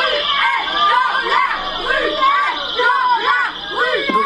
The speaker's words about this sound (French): Violeurs, ces cris, ce sont ceux de militantes féministes. Elles se sont invitées au théâtre où jouent en ce moment le chanteur et comédien.